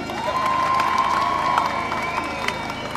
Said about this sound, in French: Alors, pour Jean qui nous a quittés, des applaudissements aussi.